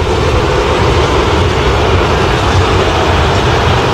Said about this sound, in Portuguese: Muitas vaias, torcedor tá xingando bastante o Luiz Cássio, tá mostrando aquele dedo, tá fazendo sinal pra ele.